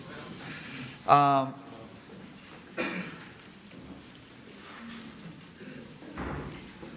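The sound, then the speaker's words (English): A back door creaks with a brief squeal, then thuds shut a moment later, with faint room noise and murmuring in the background. “So, anyway, we're really, if we could close that back door, it's cold in here, man.”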